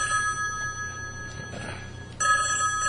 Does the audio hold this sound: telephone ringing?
yes